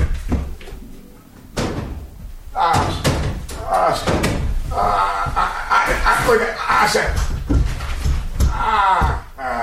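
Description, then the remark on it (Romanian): A heavy wooden door from the royal suite is lifted off and set down, producing a run of loud thuds, scrapes and knocks, with people talking over the handling. “Hai să luăm ușa de la suitoarea regală.”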